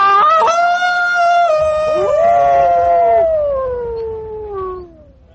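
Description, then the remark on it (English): A loud, drawn-out wolf howl holds a steady wavering pitch, then a second howl joins and overlaps, both slowly sliding down and fading away. No one speaks. “Then the enchanter, throwing up his hands, gave a great cry.”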